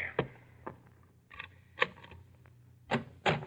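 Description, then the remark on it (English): Six or so heavy, persistent knocks on a bedroom door late in the morning, waking a sleeper, spaced unevenly with a few coming in quick pairs, fairly muffled and moderately loud, with no voices. “Late the next morning, a persistent pounding on the bedroom door awakes you.”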